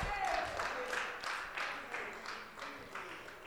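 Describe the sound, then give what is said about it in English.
An audience claps hands in a steady rhythm, about two to three claps per second, forming a full, moderately loud wash of applause with faint voices mixed in. “Clap your hands like it's happened.”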